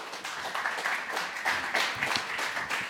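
An audience applauds steadily, many hands clapping in a dense, continuous patter with a few sharper claps poking through, no voices standing out.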